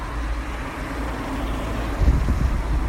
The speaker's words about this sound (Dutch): Je hoort nu het geluid, ik ook, van de weg. En ik zie het natuurlijk ook. Vuilniswagen, grote auto's, kleine auto's, verkeerslichten.